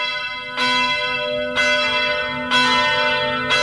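A church bell tolls four times, about one strike per second, each loud, resonant stroke ringing on and overlapping the next. There are no voices.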